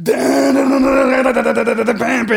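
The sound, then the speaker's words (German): A person vocally imitates the scream that ends a roughly 10-second heavy metal track, one loud, strained, sustained howl with a gritty, groaning edge lasting a couple of seconds. “Und das ging Heavy Metal.”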